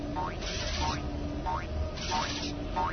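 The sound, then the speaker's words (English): An audio game cue for an approaching wire coil: a springy, boing-like rising chirp repeating at a steady, quick rhythm about five times, moderately loud over a constant low background hum. “Here comes a coil of wire.”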